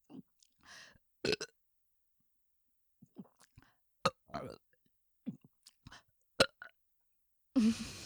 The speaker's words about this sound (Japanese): 飲み込んだところですぐゲップが大きく出るかっていうとそうでもなくてそれが忘れた頃に出てきたりするんですよね。あ、今ちょっと大きい？